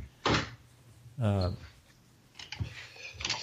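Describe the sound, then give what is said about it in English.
A door swings shut with a sharp thump, followed by a short creaky tone and a few softer clicks and rattles as it settles closed. “The door was open, too.”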